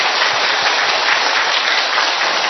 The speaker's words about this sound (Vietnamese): Một tràng pháo tay thật lớn, thật giòn giã, thưa anh chị em.